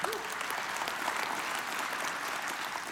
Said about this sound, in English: Now, there's a reason some of you aren't clapping right now. Can I talk about that?